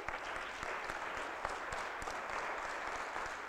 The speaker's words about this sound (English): Say amen, somebody. Did you hear that? Go ahead and give a clap for the Lord.